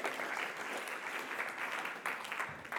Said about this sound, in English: So a round of applause for the trust there.